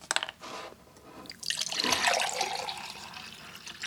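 Water glugs and splashes as it pours from a large drinking-water jug, starting with a few short sloshes, then swelling into a steady, close pour that fades slightly toward the end.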